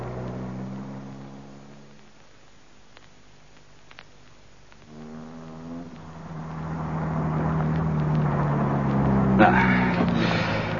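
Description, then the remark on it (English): A car engine hums steadily, its pitch dipping and rising as the vehicle drives along and slows as if pulling up at a house. The engine grows louder toward the end, with no talking. “Well, here we are, Lewis. This is my house.”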